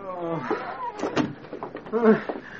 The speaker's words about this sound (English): Close the door.